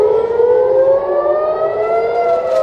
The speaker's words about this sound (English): A residential building in northern Israel was hit by a projectile on Monday after air raid sirens blared across the border town of Nahariya.